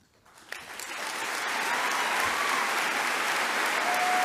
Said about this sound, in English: He gets claps there, and instead the Twitterverse wants to put shots of The Handmaid's Tale making fun of the most important title of all, homemaker, a girl he met in middle school in band class.